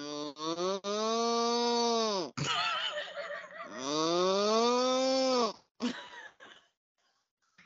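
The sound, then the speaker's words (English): A person gives a loud imitation of a cow, with a short lowing start followed by two long, drawn-out moos that swell and fall, then a few brief breathy sounds. “I can do a cow.”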